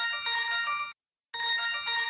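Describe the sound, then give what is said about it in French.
A morning wake-up alarm clock rings in two loud bursts of bright, buzzing electronic tone separated by a short silence, the repeating trill sounding alone with no voices. “C'est vrai pour le réveil matin, ça c'est la version « il faut se lever ».”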